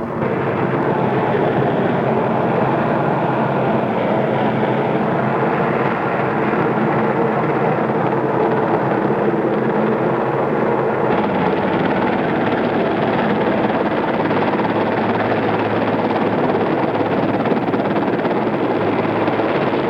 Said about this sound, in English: It should be a kind of exciting ride at any time, but I'm sure doubly so on an occasion like this. The crew chief and the helicopter, taking his commander's advice, proceeding slowly.